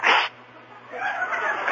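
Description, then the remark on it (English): One loud, abrupt sneeze bursts out right at the start, then a quieter stretch follows before a softer, hissing, breathy noise rises and lingers to the end. “Hey, speaking of sneezing,”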